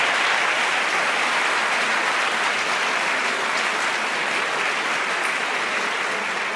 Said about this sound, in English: I want to say that this has been a spectacularly well-argued debate by both sides. I just want to invite a round of applause for them for what they did.